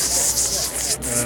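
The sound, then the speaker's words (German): A voice imitates fresh bacon sizzling in a pan: a steady, bright, crackly hiss held for just over a second at moderate loudness, with no words spoken. “Frischer Bacon in der Pfanne.”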